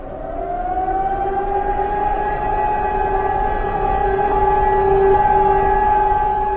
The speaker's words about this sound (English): The sound of air raid sirens is a normal occurrence in Prague. They are heard all over the city on the first Wednesday of every month at noon when they're tested.